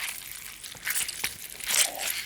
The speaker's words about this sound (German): egal ob jetzt ein Herz rausgerissen wird oder der Sabber irgendwie aus dem Mund läuft oder so, ist eigentlich immer ein Lederlappen, der natürlich in irgendwie so ein bisschen Wasser getränkt wird.